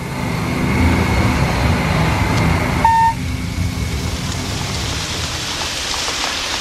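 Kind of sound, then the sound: nature, rain falling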